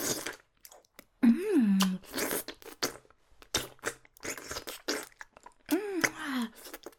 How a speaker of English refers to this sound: Sucking you so hard. I love it.